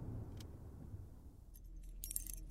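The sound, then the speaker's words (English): Keys jingle and clink in a short burst of bright metallic rattles near the end, following a stretch of quiet low background rumble, as someone fumbles to unlock a door with a deadbolt and handle using silver and gold keys. “Why are your keys so damn complicated?”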